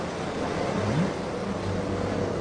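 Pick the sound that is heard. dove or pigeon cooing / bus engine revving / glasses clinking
bus engine revving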